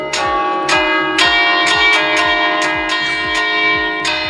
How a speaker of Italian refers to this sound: Ma dai, ma sono le campane. Ma sono le campane della chiesa di Agordo?